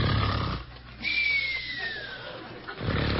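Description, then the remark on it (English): An eerie, unearthly wail in the night: a thin, high cry sliding slowly downward for about a second, framed by rough, rumbling bursts of noise before and after. “Suddenly the stillness of the night is shattered by an unearthly wail.”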